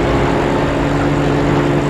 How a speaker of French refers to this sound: Une voiture passe